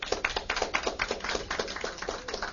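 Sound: audience clapping hands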